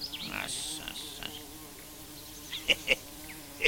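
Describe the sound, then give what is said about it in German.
A steady, muffled drone of wasps living inside a tree trunk buzzing continuously, with a few short sharp clicks near the end and no voices. “Was da summt, ist nicht der Baum, sondern die Wespen, die darin wohnen.”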